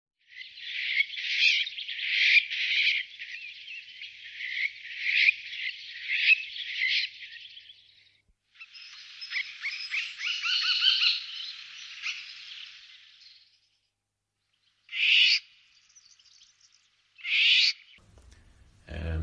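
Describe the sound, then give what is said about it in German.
A starling sings alone, mimicking a golden oriole: long runs of rapid, chattering whistled notes, then a pause and two short separate whistled bursts. “Der macht zum Beispiel besonders gerne den Pirol nach.”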